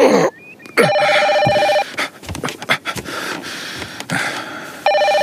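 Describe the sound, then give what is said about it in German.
A telephone rings at 3 a.m. on Christmas in loud, bright electronic bursts, two clear rings separated by a pause filled with rustling and breathy movement. “wieso rufst du mich nicht auf dem Handy an?”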